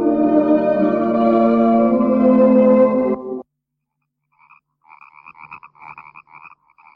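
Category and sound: animal, many frogs croaking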